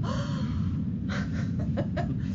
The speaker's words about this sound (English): So a collective gasp. So this is a very significant announcement.